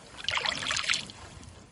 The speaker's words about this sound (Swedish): Så vi fick ro tillbaka och hämta dem.